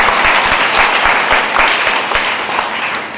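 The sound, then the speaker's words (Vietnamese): A large audience of young people at a Buddhist summer retreat claps loudly and steadily, a dense, continuous wash of applause that fills the whole stretch and eases slightly toward the end. “À, nếu đồng ý cho một tràng pháo tay lớn nào.”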